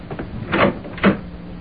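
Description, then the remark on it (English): A front door being opened for a visitor: two muffled wooden clunks about half a second apart, like the latch turning and the door swinging, with no voices. “Oh, someone's at the door. I'm coming!”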